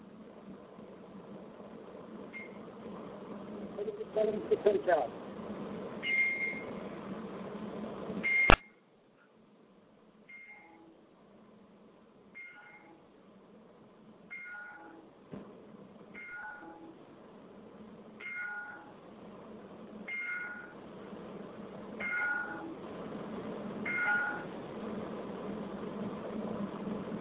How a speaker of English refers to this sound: I'm going to put my phone up to my computer, and I'm going to play this the tolling of the bell 10 times in respect. So just give it a few moments of silence, and we'll be back to you in just a minute.